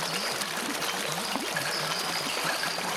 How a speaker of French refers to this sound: Et si vous vous tournez vers l'est, vous apercevrez la cime d'immenses peupliers. Écoutez le bruissement de leurs feuilles.